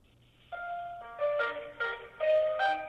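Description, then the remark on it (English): Telephone hold music: a thin, electronic-sounding melody of sustained tones that step to a new note about every half second, steady and moderately loud with no voices. “Okay, so there's hold music and there's a phone tree.”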